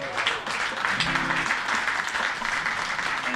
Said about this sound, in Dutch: Maar hij is ook degene, daar wil ik even een applaus voor, die de samensteller was van die geweldige ode aan onze vriend Gerard Cox.